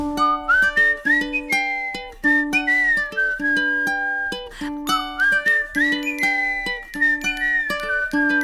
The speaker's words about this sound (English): I whistle as I walk